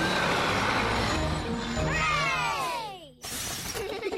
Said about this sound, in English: The bus has arrived at the foot of the mountains. The mountain road is very steep. Come on, bus. You can make it. Come on, bus.